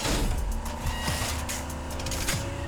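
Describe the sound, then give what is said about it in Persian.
A race car's engine runs steadily, a continuous mechanical hum with a whiny, buzzing edge and small fluctuations in pitch, with no voices. “ماشین عالی کار میکنه، سیستمای جاسوسی رو تست کن.”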